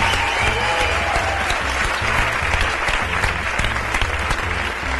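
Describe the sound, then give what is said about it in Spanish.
A comedy show audience applauds steadily for comedians Javier Cansado and Pepe Colubi as they are introduced, a dense wash of clapping that stays loud and even throughout with no voices on top, while a low rhythmic thump pulses underneath. “Un aplauso para ellos.”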